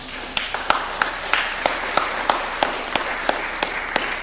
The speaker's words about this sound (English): So let's give him another round of applause.